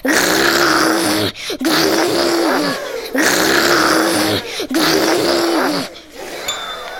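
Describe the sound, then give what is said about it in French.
A voice imitates the growl of a wolf advancing in the night, in long, rumbling, throaty bursts, loud, with four sustained growls separated by brief breaths. “Et le loup de la nuit s'avançait en faisant...”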